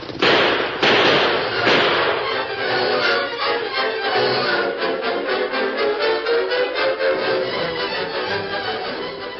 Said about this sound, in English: it's horses. Maybe some Apache Indians. No, no, I recognize them. It's Tonto and a Lone Ranger.